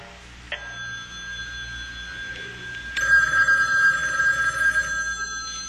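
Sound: telephone bell ringing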